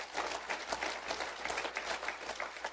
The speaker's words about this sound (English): Yeah, give him a hand clap.